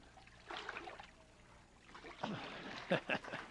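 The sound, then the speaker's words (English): Water sloshes and splashes as a person being baptized, seated and holding their nose, is lowered into a baptismal pool and lifted back out, with a brief surge early on and a stronger burst of splashing near the end. “If you'll be seated right there, hold your nose so you don't get a water nose full of water.”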